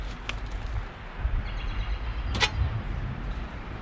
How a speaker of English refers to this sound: So, I'm gonna pop this on the grill. See my propane grill here? Just fire this up. Yep, she's cooking. All right. Slap this bad boy on the grill.